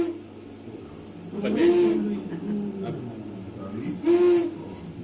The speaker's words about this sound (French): Alors le hibou, c'est quelque chose, c'est un chant qui il fait cou. Ça c'est la femelle.